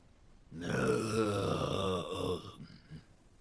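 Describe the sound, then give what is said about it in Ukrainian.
A human voice makes a low, rough guttural growl from the throat, imitating a bear and saying a name in bear language. It is one sustained, rumbling vocalization of about two seconds, trailing off into a brief breathy sound. “Так звучить ім'я ведмежою мовою. Ясно. Тепер ви. Повторіть. Через горло.”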